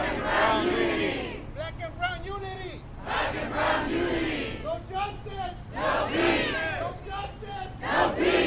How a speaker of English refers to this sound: Hundreds of protesters gathered at Mariachi Plaza, on foot and in cars,